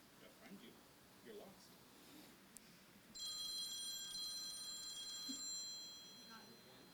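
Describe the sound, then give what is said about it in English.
A phone rings for an incoming call during a PowerPoint presentation, a bright, high electronic ringtone that cuts in partway through and trills steadily for about two seconds over a low murmur of room noise and faint voices. “My wrist is vibrating. My phone's ringing”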